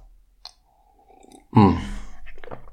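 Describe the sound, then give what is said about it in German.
Sipping of coffee: a small click of the cup, a quiet drawn-in slurp, then a louder swallow and breathy exhale, with no talking. “Erstmal wieder ein Schluck Kaffee.”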